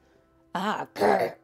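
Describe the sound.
A voice imitates a creature's throat-clearing noise in two rough, raspy bursts, a short pause between them, with no words spoken.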